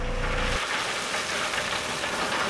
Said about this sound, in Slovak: Potom potrebujeme tú celú pláň cestnú aj túto s kamenivom zahutniť do nejakej požadovanej únosnosti. Takže máme tu ďalší stavebný stroj, je to vibračný cestný valec, čiže má to vibráciu, vibruje a valcuje.